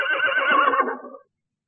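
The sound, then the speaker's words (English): A horse whinnies once, a loud, shrill, quavering call lasting just over a second that trails off into silence, with no voices present. “No, half my kingdom. For a horse.”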